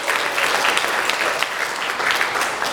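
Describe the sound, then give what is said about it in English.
A church audience gives a polite courtesy clap for a few seconds, celebrating that more Bibles must be reordered, a dense, even patter of many hands at moderate loudness with no cheering or voices. “Even though that was a courtesy clap.”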